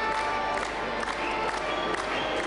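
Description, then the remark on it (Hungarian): A large crowd celebrating together in a decorated sports hall in Szekszárd, Hungary, during a four-day festival organized by the German minority self-government, fills the reverberant hall with a steady, dense roar of voices, with scattered cheers and claps rising now and then throughout. “A tömeg együtt mulatott a feldíszített sportcsarnokban.”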